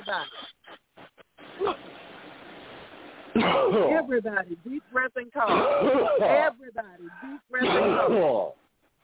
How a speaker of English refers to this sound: Everybody, deep breath and cough.